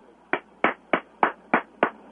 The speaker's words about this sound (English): Do you hear what I did? You're applauding? I do. I applaud. At the end of Ted Bundy specials.